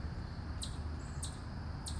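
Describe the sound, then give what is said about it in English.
On a morning, a bird chirps three times, short high-pitched calls spaced evenly about every half second, over a steady low background rumble with no one talking. “I don't know what kind of bird that is.”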